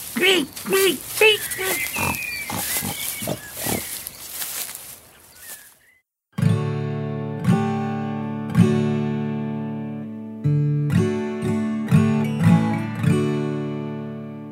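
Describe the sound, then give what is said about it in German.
A pig, the house pig Krötekatz, grunts and squeals in a rapid flurry of sharp, high-pitched bursts for several seconds as it struggles to escape while carried under someone's arm, then falls silent before sustained, ringing musical chords take over. “Mit wankenden Schritten und dem Schwein unterm Arm schlurfte der Vielfraß los in Richtung Wald.”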